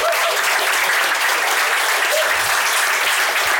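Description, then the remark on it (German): An audience at a live evening show in the Grüne Bude on the Weser claps and cheers steadily, whipped up by the host's wild hand gestures; dense applause with a few brief whoops rising above the bright, hissing wash of hands, loud and continuous throughout. “Für alle, die es nur hören, ihr habt es nicht gesehen, aber ich habe mit wilden Handbewegungen dafür gesorgt, dass das Publikum durchdreht.”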